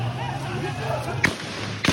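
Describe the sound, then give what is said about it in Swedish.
Two sharp gunshots, fired by President Bazoum's own guards outside the presidential palace at staff demanding his release, ring out about half a second apart, cracking loudly over a steady background of crowd murmur and low rumbling noise. “Skott från presidentens egna vakter.”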